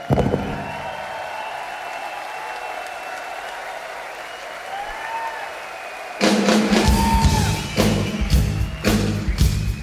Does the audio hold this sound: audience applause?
yes